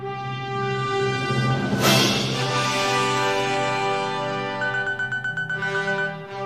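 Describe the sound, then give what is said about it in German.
An alarm clock rings with a bright electronic melody of sustained tones, then breaks into a quick run of pulsing beeps before fading; no one speaks. “Mein Wecker klingelt.”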